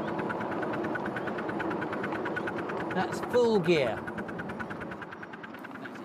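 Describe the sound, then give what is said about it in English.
A steam locomotive engine works hard up a gradient, its reverser set into more forward gear for a longer cut-off, its rapid, steady chuffing beats pounding continuously, while a man briefly speaks over the noise. “You hear the engine working now.”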